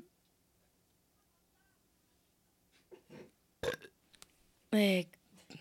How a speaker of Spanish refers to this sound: él tiene pedos bucales.